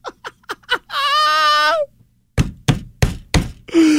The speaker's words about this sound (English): Oh, could you hear that banging of me on the table? Could you hear that?